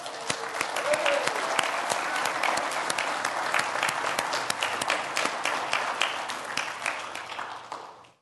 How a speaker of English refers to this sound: Please. Join me in a round of applause for the women in this room.